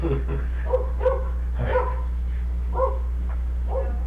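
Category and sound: animal, puppy barking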